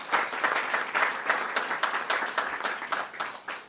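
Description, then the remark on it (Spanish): An audience breaks into steady applause for a guest panelist, many hands clapping in a dense, continuous patter at an even, moderately loud level for a few seconds, with no voices. “En principio, un aplauso para Julián por estar con nosotros.”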